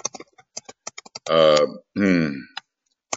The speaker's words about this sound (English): New keyboard, I'm afraid,